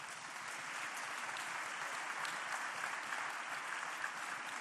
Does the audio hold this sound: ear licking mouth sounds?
no